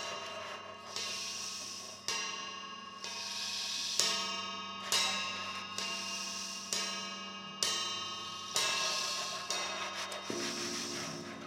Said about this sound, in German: Die Turmuhr schlägt 12 Mal.